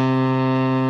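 A whistle from a bag of assorted novelty whistles, blown with a surprisingly deep, low tone, sustained and steady like a foghorn, loud with a rich buzzy harmonic quality and no talking.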